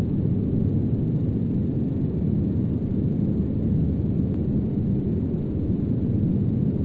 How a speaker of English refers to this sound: So roar, which again is usually tied to airflow and fans.